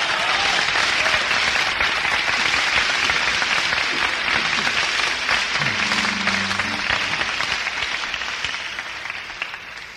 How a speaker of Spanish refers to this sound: Si nos permiten, entonces échale un fuerte aplauso, pues, de una vez.